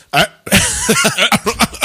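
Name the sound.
cough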